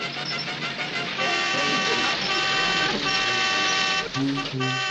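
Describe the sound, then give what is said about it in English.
A car horn is honked at a house to get help, sounding in long, loud blasts, its buzzing tone shifting pitch a few times and sounding almost continuously throughout. “Let's pull in and get help. I'll honk the horn.”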